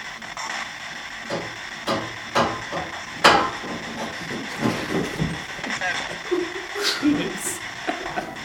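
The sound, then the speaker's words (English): Steam heating pipes bang and knock at irregular intervals, sharp metallic clanks rising over a constant hiss, with a loud strike in the middle and a faint murmur here and there. “it just almost sounds like pipe bangs, I understand you throw up the steam radio, and I know that sound, in fact, that sounds like a whole new sleep.”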